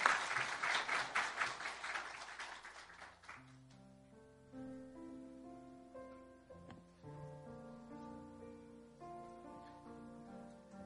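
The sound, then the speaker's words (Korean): An audience at Areumbit Church claps in a dense burst of applause for about three seconds, welcoming a baptism candidate coming forward to give a testimony, then it fades as soft, sustained keyboard chords play alone. “박수로 한번 맞이해 주시면 감사하겠습니다.”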